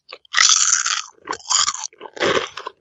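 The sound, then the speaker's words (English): Loud crunching of kettle cooked chips being chewed, three bursts of noisy crackling with brief pauses between bites, no talking. “Is it because you're so crunchy? No, we used to just eat during the show.”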